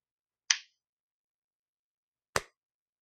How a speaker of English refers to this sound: All right, everyone give him a clap.